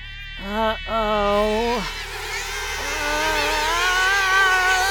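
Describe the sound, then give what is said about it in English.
A high, whining mosquito buzz drones steadily, first as a single tone that drops off, then a denser swarm of overlapping whines rising and thickening, loud. “A mosquito apocalypse!”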